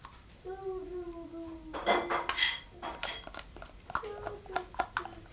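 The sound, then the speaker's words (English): Dishes and cutlery clatter and clink in irregular bursts as they are washed up, with a sharp flurry of knocks early on, while a child's high voice speaks at the start and again toward the end. “Go and wash up for me, that's right.”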